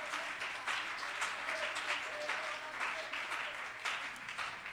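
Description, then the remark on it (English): A church crowd of many people claps their hands in praise of God in steady, dense applause that continues without a break for several seconds, with no one speaking over it. “If you believe that, give him a hand clap of praise right now.”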